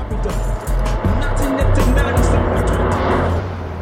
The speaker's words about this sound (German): Auf dem Rückweg zu Bobs Käfer fuhr ein knallgelber Daihatsu an den drei Detektiven vorbei, aus dem laute Hip-Hop-Musik drang.